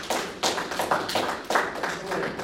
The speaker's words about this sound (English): Glory to God. Come on, give the Lord a round of applause.